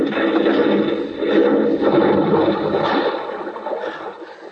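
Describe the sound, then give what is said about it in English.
A heavy splash followed by several seconds of churning, gurgling water as a car, pushed and rolled by people, plunges into an irrigation ditch by a canal bank, loud, fading slightly at the end with no voices. “Find where we sank the car.”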